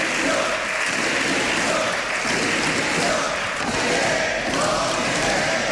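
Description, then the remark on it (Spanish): Sustained din from deputies in the hemicycle of the Congress of Deputies during a government control session with questions on corruption: many voices shouting "corruption" at the government and "accomplices", amid applause and thumping, loud and unbroken throughout. “con batería de preguntas del Partido Popular sobre corrupción y con mucho ruido en el hemiciclo un día más. Gritos de corrupción dirigidos al gobierno y de cómplices pensando en Sumar y en los socios.”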